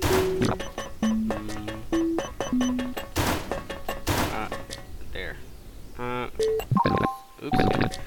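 An electronic Simon memory game plays a sequence of short beeping tones at different pitches, one after another, mixed with sharp clicks and thumps from button presses as the player tries to repeat the sequence, fairly loud.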